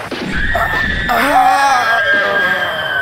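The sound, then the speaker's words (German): A bone-chilling monster scream echoes over a battlefield, loud and drawn out for about three seconds, with shrill wavering tones layered over a deep, rumbling growl. No one speaks. “Auf einmal hallte ein markerschütternder Schrei über das Schlachtfeld.”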